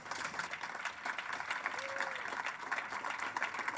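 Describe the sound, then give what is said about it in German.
A festival audience applauds author Georg Klein before his reading, a dense wash of many hands clapping at an even level for several seconds, with a brief faint tone sliding through partway. “Applaus noch einmal für Georg Klein.”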